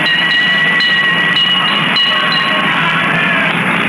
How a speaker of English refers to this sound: made this report, which of course begins with a brief ride on the cable cars.